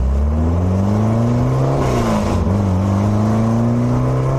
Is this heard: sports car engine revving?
yes